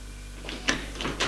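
A stiff old door that has not been opened for a long time, leading from an alley into a small courtyard, is forced open in a few effortful scraping, creaking pushes, moderately loud against a low background hum.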